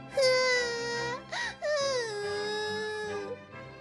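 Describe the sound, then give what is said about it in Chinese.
A girl's loud, drawn-out crying, likely acted out by a voice, as she sits at a weaving loom: one long wavering wail, a brief sob, then a second long falling wail, clear with no talking. “而这个时候，皇宫里的皇后正好出来散步，听到了女孩子的哭声。”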